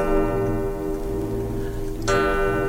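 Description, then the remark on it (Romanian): A clock ticks steadily over a sustained, ringing tone, then a single bright chime strikes the hour near the end, fairly loud, with no voices. “În sfârșit mijiră zorile și așteptam ceasul potrivit pentru vizită. Bătu și acesta.”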